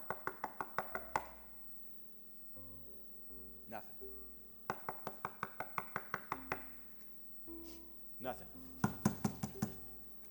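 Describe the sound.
Rapid bursts of knocking, acted out as knocking on the door of his mother's house, several sharp raps each, repeat in three clusters with pauses between; a voice speaks briefly between the bursts over a faint tonal hum.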